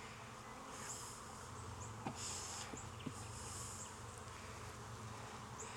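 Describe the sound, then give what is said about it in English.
A steady, dense hum of many honeybees buzzing around an open hive frame of mostly hatched brood with drones coming out, a continuous drone with a few soft knocks and clicks of handling mixed in; no one speaks. “It got some drones coming out up here.”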